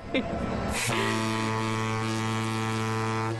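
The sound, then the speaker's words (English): A deep boat horn sounds one long, steady blast lasting about two and a half seconds, loud, right after a brief burst of noise and a short vocal sound. “It's a boat horn.”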